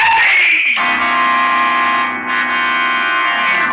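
A man in the dark, after the light goes out, lets out a loud, sustained yell that holds one harsh, strained pitch for several seconds, slightly distorted, with no other voices around it.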